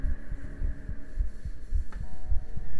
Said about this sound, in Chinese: 心跳很快都被你发现了。因为狗狗太开心了嘛，太开心了嘛。